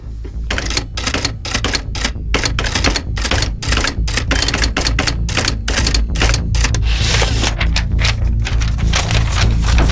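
Rapid, loud keystrokes on a secretary's typewriter clatter in an uneven rhythm, with a steady low rumble underneath and no talking throughout.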